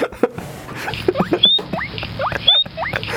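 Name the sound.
guinea pigs squeaking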